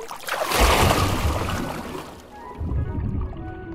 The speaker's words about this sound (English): I plunged and swam like a seal to the lake's edge.